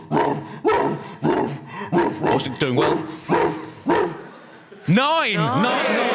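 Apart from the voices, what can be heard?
dog barking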